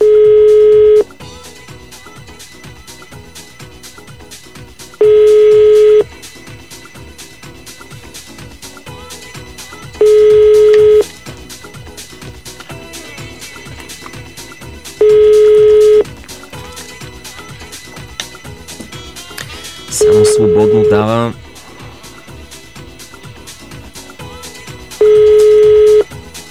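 A telephone ringback tone from a call placed to a listener during a radio program repeats six times, one-second beeps spaced about five seconds apart, over a faint steady background, and the call is never picked up.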